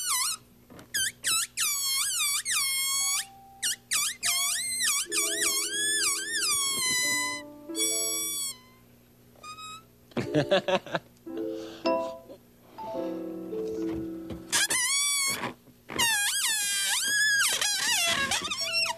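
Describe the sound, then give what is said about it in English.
Air squeals out of a balloon's stretched neck in a long series of loud, shrill bursts, the pitch wobbling and bending up and down, sometimes dropping to lower, buzzy honks. “When the air comes out, it makes different sounds.”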